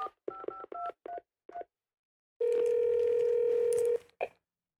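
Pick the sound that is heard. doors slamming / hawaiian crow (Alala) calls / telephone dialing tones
telephone dialing tones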